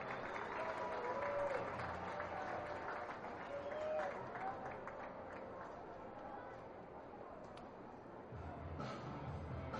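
A round of applause from a crowd for a young baseball player nominated by his coach, steady dense clapping mixed with cheering and a couple of brief whistles, lasting the whole stretch and dipping slightly near the end before swelling again.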